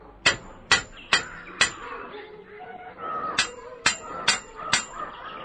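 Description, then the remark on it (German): Sharp metallic hammer blows ring out on the metal bars of a cage, four quick strikes, a short pause, then four more, each with a bright ringing tail over a faint background murmur. “Den Hammer benötige ich zu einem anderen Zweck. Zu diesem.”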